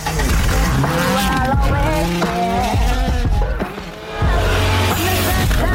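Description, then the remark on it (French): A loud, revving car exhaust roars and whines over a song, its pitch sweeping up and down continuously, with a brief dip in loudness before the roar resumes. “Le truc, c'est juste un bruit de pot d'échappement sur une chanson, quoi.”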